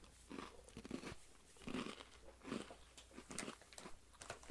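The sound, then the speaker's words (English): Crisp crunching as someone chews a second funnel-cake-flavored cream cookie, with several bites landing in a loose, steady rhythm about once a second. It's fairly quiet overall, and no one speaks. “That's why I gotta eat a second one.”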